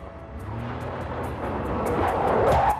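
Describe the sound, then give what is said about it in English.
The engine of a dark grey-brown Ford sedan starts and rumbles steadily, then grows louder and higher as the car pulls away to follow another car. No voices. “He starts his engine and follows her.”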